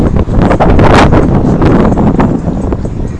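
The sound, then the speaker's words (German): Strong wind buffets the microphone outdoors on the way to a tram, a loud, continuous rumbling roar with gusty surges and no voices, filling the whole clip. “Kein gutes windmäßiges Wetter.”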